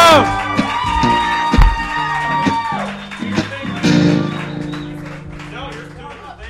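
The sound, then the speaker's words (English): A crowd cheers and whoops loudly for several seconds as a woman performer is introduced, with scattered clapping and high shouts over a dense wash of voices, easing off slightly toward the end. “Ladies and gentlemen, give her a warm round of applause.”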